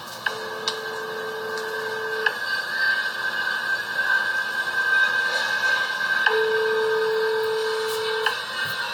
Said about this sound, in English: And this is the business right here. Sweet Angel Child Care in Minneapolis, Minnesota. Now, listen to where this phone number goes to when you call this child care center.